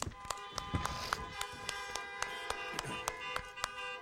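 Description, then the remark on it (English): Several car horns honk together at a morning service, blown from vehicles carrying mothers to recognize them, in a steady, overlapping blare of sustained tones, with sharp, irregular tapping clicks scattered throughout the four seconds. “If you're in a vehicle today that has a mother in it, would you please blow your horn this morning?”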